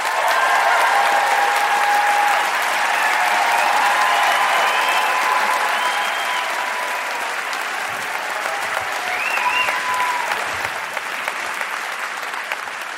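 A live audience at the Flynn Center for the Performing Arts in Burlington applauds Ben Cohen and Jerry Greenfield steadily for about thirteen seconds, a dense wash of clapping that stays loud throughout, with a few faint whoops or cheers rising above it and no one speaking.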